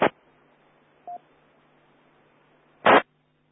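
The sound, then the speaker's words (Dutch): Short DTMF dialing tones connecting EchoLink on an amateur radio net at quarter to eleven, over a steady low hiss: a loud burst at the start, a faint brief beep about a second in, then another loud burst near the end. No one speaks. “We gaan alvast naar de kwart voor elf, dat we de echo-link even aankoppen.”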